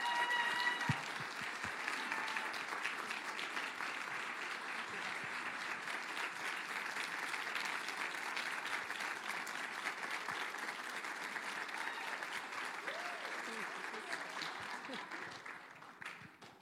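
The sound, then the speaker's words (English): Sustained audience applause in a church welcoming guest speakers, a dense steady clatter of many hands clapping at even loudness for about sixteen seconds before tapering off at the end. “So let's give them a round of applause and welcome them.”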